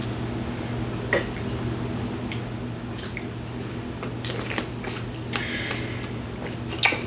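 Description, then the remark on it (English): Someone drinking water: a few wet gulps, swallows and small mouth clicks, scattered irregularly over about seven seconds, fairly quiet above a steady low hum, with no talking. “Man, that's some good water.”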